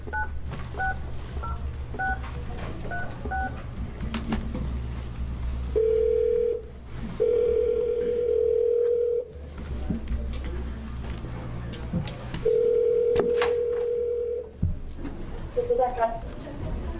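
A quick run of touch-tone beeps as a number is dialed to phone someone into an Early Childhood Family Supports Committee hearing, followed by a steady electronic line tone that sounds in long bursts with pauses between, over a low hum.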